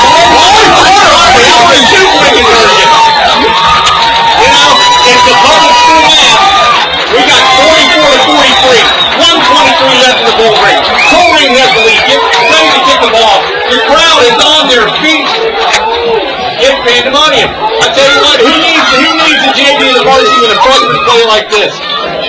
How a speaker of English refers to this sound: Not sure, but I think I heard a We Are Corrine chant coming from the crowd here at a freshman game.